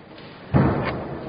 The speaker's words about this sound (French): Tu veux qu'on avance ta chaise